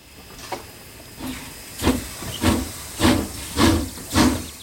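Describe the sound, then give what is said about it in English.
A steam locomotive chuffs as it pulls away, its rhythmic hissing bursts of steam growing louder and slightly quicker, about seven puffs in all, with no voices. “Come on, children. Let's get on the train.”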